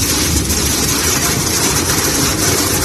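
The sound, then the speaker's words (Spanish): Heavy rain and hail coming down on wildfires in Spain, especially in the Valencian Community, in a dense, unbroken roar, a loud steady hiss with grainy pattering throughout and a low rumble underneath; no voices are heard. “Este sonido, esta banda sonora es lluvia, es granizo sobre las llamas que asolan nuestro país, es música y Gloria Bendita, que hacía acto de presencia esta semana para ayudar a los que luchan contra las llamas”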